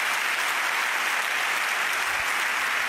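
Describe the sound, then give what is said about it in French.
Steady, dense applause from a large audience in the Palais des Festivals at the Cannes festival, for Pierre Lescure and Thierry Frémaux, a continuous crackle of many hands clapping at once with no pauses or voices standing out. “Donc un grand merci à Pierre et Thierry qui méritent tous nos applaudissements.”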